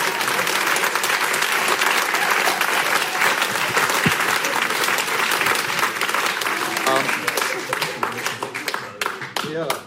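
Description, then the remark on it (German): Loud, sustained applause from an audience during a radio show, given briefly for the radio listeners, a dense wash of clapping that stays steady before thinning into scattered individual claps near the end. “Wir machen so mal Applaus, kurz dazwischen für die Radiohörer.”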